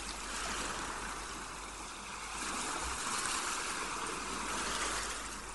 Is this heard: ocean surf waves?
yes